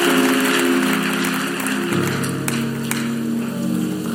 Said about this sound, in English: Give a mighty clap offering.